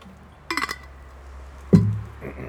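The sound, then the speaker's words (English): A drinking glass of water gives a short cluster of bright, ringing clinks, followed about a second later by a single duller knock, like the glass being set down, as someone drinks water between beer tastings. No one speaks. “Clear my palate with some water here.”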